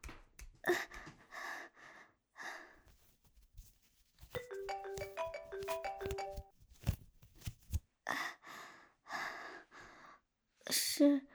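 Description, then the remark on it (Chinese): A mobile phone ringtone plays a short, clear electronic melody of stepped notes for about two seconds, an incoming call from the speaker's best friend, with breathy gasps and sighs before and after it. “我手机响了，停下来。”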